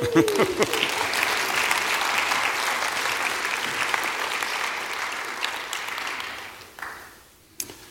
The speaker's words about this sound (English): You can be seated. Go ahead, you can clap.